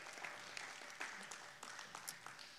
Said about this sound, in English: Come on, give the Lord a hand clap of praise as you're being seated.